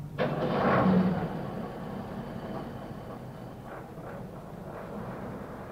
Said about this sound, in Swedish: Han startar motoren och vi åker sakta över floden.